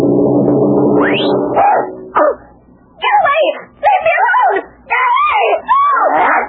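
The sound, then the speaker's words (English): An immense watchdog named Greatest gives a long, rough, harmonic bark-like cry, then a run of four or five short, high, wavering whimpers and yelps in quick succession. “And where did that dog come from? He's immense.”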